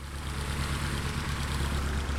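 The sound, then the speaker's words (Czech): A steady, low engine drone idles continuously with a rumbling, slightly pulsing tone: the started tow plane that will pull a glider into the air for an aerobatic flight, with no voices. “Já slyším, že letadlo, které vás nyní vytáhne do vzduchu, už nastartovalo.”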